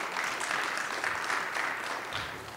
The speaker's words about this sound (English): But he's doing really well, and you are certainly welcome to clap for that.